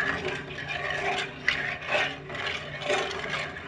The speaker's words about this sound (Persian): این صدایی که میده مشخصه که هنوز شکرها و آرد خیلی خوب داخل این شیرمون حل نشده.